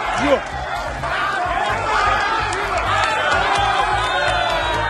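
A loud, dense crowd noise of overlapping shouting voices, cheers and whoops during a council sitting in a city council chamber in the capital, as private security were called in; sustained and chaotic throughout with no single voice standing out.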